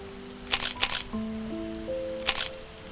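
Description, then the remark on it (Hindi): Three crisp camera shutter clicks, two close together near the start and one a bit later, over a soft bed of sustained tonal music, as someone photographs Mumbai in the rain. “मुझसे रुका नहीं गया, मैंने अपने बैग से फटाफट कैमरा निकाला और मुंबई के इन हसीन पलों को अपने कैमरा में उतारने लगा।”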